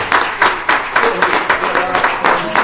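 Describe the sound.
An audience claps hands together in a steady, quick rhythm in praise of the Lord, a dense crowd of claps landing on each beat, loud, with faint voices mixed underneath.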